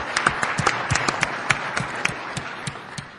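A crowd applauds with a dense patter of many hands clapping at once, steady and moderately loud, sharp individual claps standing out from the wash for a few seconds.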